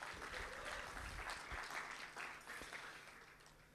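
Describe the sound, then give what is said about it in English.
A crowd applauds a keyboard player steadily, a dense wash of overlapping hand claps that holds at an even level for a few seconds before tapering slightly. “Let's give her a hand because we're all looking anyway.”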